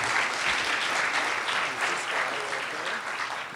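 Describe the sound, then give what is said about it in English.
Steady applause from a crowd, dense rapid clapping filling the whole stretch at an even, fairly loud level with no clear breaks or voices. “let's give him a round of applause for making it up to the stage.”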